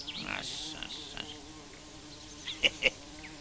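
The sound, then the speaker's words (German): A steady, muffled insect buzzing drones on throughout from wasps living inside a tree trunk, with a couple of brief sharper clicks near the end. “Was da summt, ist nicht der Baum, sondern die Wespen, die darin wohnen.”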